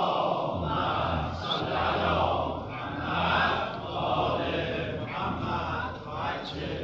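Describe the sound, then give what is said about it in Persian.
A large audience loudly recites salawat in unison as a gift dedicated to Imam Khomeini, a dense, steady roar of many voices that swells and dips in rhythmic waves for several seconds with no single voice standing out. “همون کاری که امام خمینی سلام الله تعالی علیه کرد، محضرش صلوات بلند هدیه بفرمایید.”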